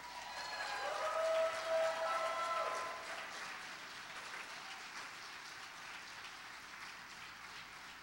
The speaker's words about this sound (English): Now, without further ado, it is my great honor to introduce to you someone who you know and love. Put your hands together and welcome Bishop Gordon MacDonald.